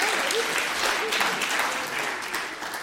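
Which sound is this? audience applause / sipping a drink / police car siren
audience applause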